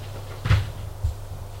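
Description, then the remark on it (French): An apartment door opens with a solid wooden thud, followed half a second later by a softer knock as it settles, against a low steady hum and no voices. “La porte s'ouvre.”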